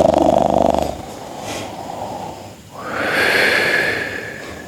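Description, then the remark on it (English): Slow, heavy breathing of someone sleeping under a blanket: a rough, noisy breath, then a pause, then a long, airy rush of air. No voices. “When she listens very attentively, there is the sound of someone sleeping under the blanket.”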